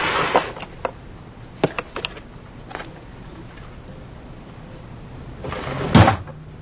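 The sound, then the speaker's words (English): A desk drawer slides open with a broad scrape, followed by scattered small clicks and knocks of objects being shuffled around as someone rummages, then a louder clunking slide near the end, fairly quiet overall. “I think there's a ruler in the desk drawer.”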